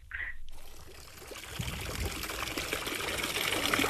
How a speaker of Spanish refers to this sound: Tiene pinta de fuente esto